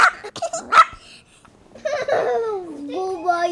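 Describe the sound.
A new puppy at a family's home in Austin gives a few quick, sharp yips in the first second, then a child's high voice babbles and talks over a quieter stretch.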